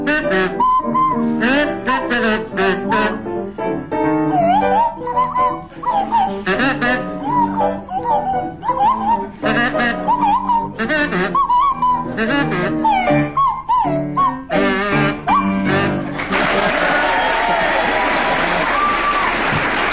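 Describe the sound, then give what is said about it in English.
A buzzing kazoo and a sliding swanee whistle play together in short, wobbly, gliding phrases, loudly, before a burst of audience applause takes over near the end. “To feature Willie Rushton on kazoo and Tim Brooke Taylor on Swanee Whistle”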